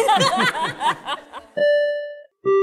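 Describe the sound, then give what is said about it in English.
A burst of laughter is followed by a bright bell sound effect: two clear chime tones, the first ringing out for under a second, then a second, lower tone, loud and close. “Insert the PR bell here, please.”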